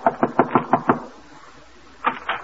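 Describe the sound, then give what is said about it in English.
A woman carrying laundry under her arm knocks on a wooden door: a quick run of six sharp, evenly spaced knocks, followed by a brief pause and two more raps. “So now, with his laundry under her arm, she's knocking at the door.”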